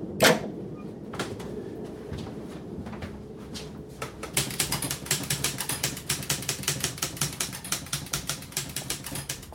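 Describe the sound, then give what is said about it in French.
Typewriter keys clack as someone types on carbon paper, a few scattered strikes at first, then a fast, steady run of sharp, loud taps. No one speaks. “Je tape tout sur papier carbone.”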